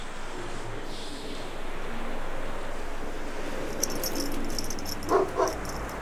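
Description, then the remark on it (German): Two quick dog yelps or whimpers near the end, over a steady rush of surf or wind noise, with a brief light jingling just before them. “Unauffällig morfte ich in einen Hund, um die geheime Versammlung zu belauschen.”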